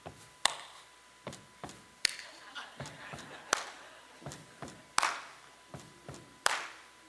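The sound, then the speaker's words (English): A steady rhythmic pattern of sharp, loud percussive hits, hand claps interspersed with duller thuds of a person stomping a foot, repeating about once or twice per second, with no talking. “All I did was stomp my foot a couple times and clap.”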